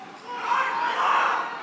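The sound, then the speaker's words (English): A campaign rally crowd in Tulsa cheers and shouts in a dense, sustained roar that swells, eases slightly, then surges again before tapering off, with no single voice standing out, egging on the speaker as he calls the coronavirus 'kung flu'. “The crowd's kind of egging him on there.”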